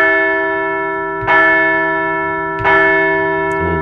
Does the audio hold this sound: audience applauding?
no